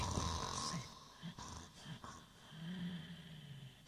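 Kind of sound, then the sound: human body sound, man snoring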